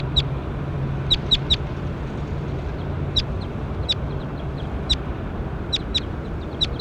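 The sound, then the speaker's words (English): A bird, the one being pointed at and recorded as bird 21, calls in sharp, high-pitched chirps that come in quick bursts of two or three, repeating over a steady, noisy low rumble. Nobody speaks. “Pointed at bird 21.”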